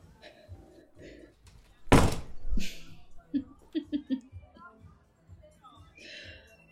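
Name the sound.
door being opened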